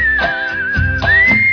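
A person whistles a short tune, a clear steady high tone that dips slightly and then rises again, loud with no talking.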